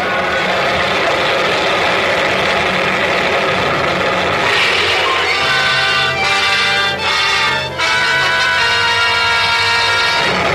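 A loud, steady roar of rushing floodwater fills the whole clip, and about halfway through, sustained low droning tones rise up and hold over the churning noise.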